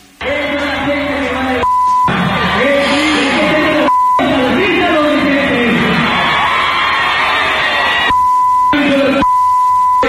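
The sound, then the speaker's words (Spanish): Steady, high-pitched censor bleeps cut in repeatedly, four or five times, over insults in a heated argument amid a loud, chaotic crowd at a palenque after midnight, with shouting and cheering voices in between. “Era puro bip, porque las cosas se pusieron calientes.”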